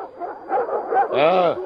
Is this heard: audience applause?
no